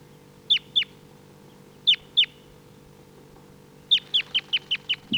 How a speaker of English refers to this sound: Decoys are calling.